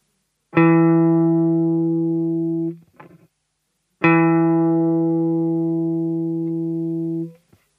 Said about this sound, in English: The first one is just a unison, which is the same notes played twice.